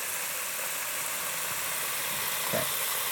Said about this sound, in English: Ooh, I love to hear that fish frying. Woo, sounds good.